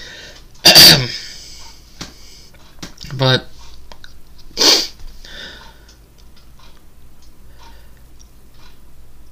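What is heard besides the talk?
hiccups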